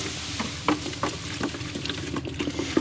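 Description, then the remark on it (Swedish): Thick paint being stirred in a can to dig up orange pigment that has settled at the bottom and get the right shade, with soft wet scrapes and sloshes repeating at an uneven rhythm over a steady, moderately loud bed of noise; no one speaks. “Jag ser ganska mycket av det orangea i pigmenten har liksom lagt sig i botten.”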